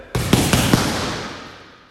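Four sharp punches smack a bag in quick, even succession, loud, each thud ringing briefly before fading out.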